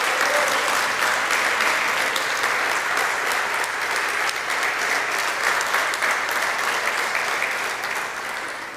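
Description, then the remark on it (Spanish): A large crowd claps steadily and loudly for several seconds, a dense wash of overlapping applause that holds its strength throughout and only begins to ease slightly at the very end. The audience is applauding Christ during a sermon. “Fuerte el aplauso a Cristo, vamos.”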